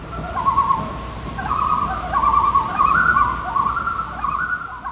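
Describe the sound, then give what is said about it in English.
Loons calling over and over at a cabin in Minnesota, long wavering wails that overlap and rise and fall, fairly loud and carrying across open air, with a faint low rumble in the background and no talking. “sent us some loons from the cabin where he grew up.”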